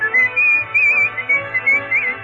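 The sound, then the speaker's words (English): A man whistles a lively tune, bright warbling notes rising and falling in short phrases, carried over a steady musical accompaniment underneath. “Every night, the couples gather round the square and listen to him warble so sweetly.”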